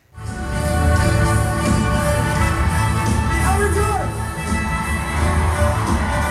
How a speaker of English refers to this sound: Did you hear the crowd respond when he yelled out, "How are we doing?" And everyone just said, "Yeah."